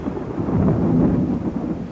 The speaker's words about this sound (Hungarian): Micsoda vihar!